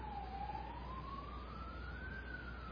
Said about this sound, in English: And there goes the police car after the motorbike.